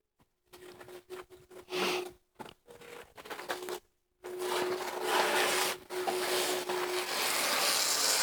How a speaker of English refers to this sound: Lots of tearing sounds. It's awesome.